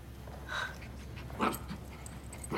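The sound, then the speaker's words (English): A dog pants softly in a hospital, with a couple of short breathy bursts and faint whimpery tones between them. No one speaks. “You brought a dog to a hospital?”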